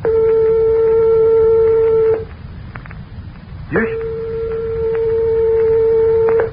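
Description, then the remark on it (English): Two steady, buzzy mid-pitched tones only an eighth of a tone apart play one after the other, separated by a short pause. They are nearly identical in pitch and each is held for a couple of seconds over a faint background hiss. “Here are two tones only 1/8 of a tone apart, or 1/4 of the distance of separation from the closest tones of your piano.”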